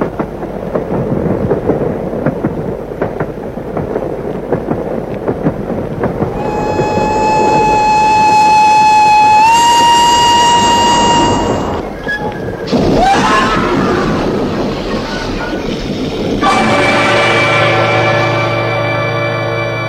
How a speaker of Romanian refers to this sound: Astăzi, pe linia Paris-Rouen, a avut loc un grav accident de cale ferată. Două trenuri venind din direcții opuse s-au ciocnit din cauza ceții.